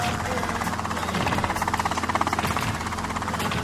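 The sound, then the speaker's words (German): A helicopter carrying Kommandante Ramirez thrums steadily high above troops in a forest at dawn, its rotor chop pulsing in a fast, even rhythm. The engine noise is loud and continuous, swelling slightly in the middle as if passing overhead. “Hoch darüber Kommandante Ramirez im Helikopter.”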